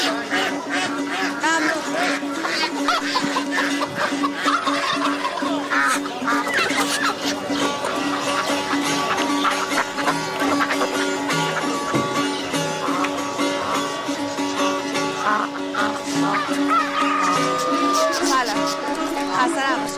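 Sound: chickens clucking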